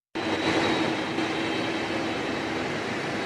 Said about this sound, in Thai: ครับนั่นคือเสียงเครื่องบิน Air Force One ที่ประธานาธิบดีบารักโอบามาใช้เดินทางไปยังโปแลนด์